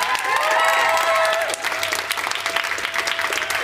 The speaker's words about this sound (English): I think you should give her a huge round of applause.